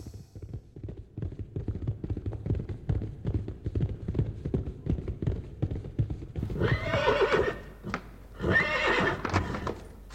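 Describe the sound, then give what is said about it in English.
Steady hoof clops beat a quick rhythm for several seconds, then a horse lets out two loud, shrill whinnies near the end, clear with no talking. “Go fetch me my horse.”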